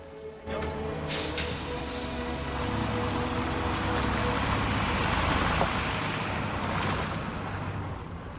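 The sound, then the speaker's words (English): A bus engine rumbles loudly as the bus pulls away, a steady low drone with a hissing, wind-like wash over it that holds for several seconds. “The bus pulls away.”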